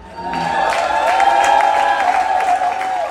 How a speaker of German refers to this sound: Sie sind begeistert, sie klatschen, sie grölen, sie lieben eigentlich den Auftritt, auch weil es so unüblich ist, dass man in dieser Szene eben selber singt.